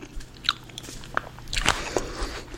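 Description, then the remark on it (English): Someone chewing a mouthful of five flat blueberries at once: soft, wet squishes and small crunchy pops in an irregular rhythm, fairly quiet, with no talking. “Nothing to do except chew blueberries. Five into my mouth at the same time.”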